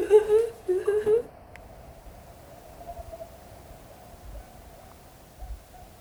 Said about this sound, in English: an amazing songs of animals of outside. Amazing what? Songs of animals, birds.